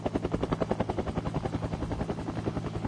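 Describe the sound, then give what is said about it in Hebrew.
A caller from Bnei Brak with a baritone voice imitates a helicopter rotor and propeller with a fast, steady chopping pulse over a low droning hum, fairly loud, sustained for a few seconds with no words. “בוא נשמע אותך למשל הולך על אפקט של אולי מסוק.”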